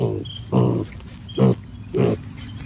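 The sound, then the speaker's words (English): Five-week-old pigs on a farm grunt while rooting, a quick series of short, throaty bursts, about four in under three seconds, over a low background rustle. “They want to root through the dirt and they want to root through the leaves. Just like these five-week-old pigs at Nittany View Farm.”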